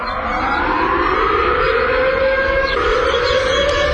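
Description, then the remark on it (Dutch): A civil defense warning siren in Lelystad, Netherlands, sounding at exactly 12 o'clock on the first Monday of the month, wails steadily and loudly, its tone slowly rising over a continuous drone, with no voices present. “Het is de eerste maandag van de maand, dus begint om klokslag 12 uur de sirene te loeien.”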